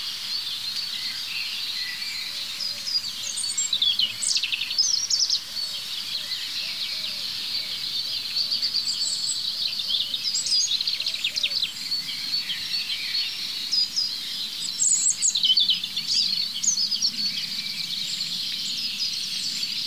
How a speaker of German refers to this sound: aber jetzt wollte ich erstmal mit euch dem Rotkehlchen lauschen. Ich werde mir mal eins suchen, es sollte nicht so schwer sein.